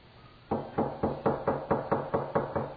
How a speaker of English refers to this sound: Oh, there was a loud knock at the door.